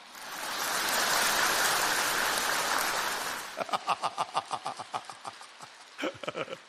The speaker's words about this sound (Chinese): 鼓掌